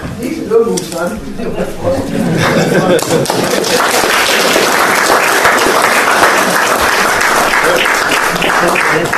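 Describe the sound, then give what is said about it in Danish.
An assembly bursts into applause to confirm the election of a board chairman, dense steady clapping rising after a brief moment of voices and continuing loudly and evenly to the end. “Ja, du må tage de takke med klapsalver, så du er hermed valgt.”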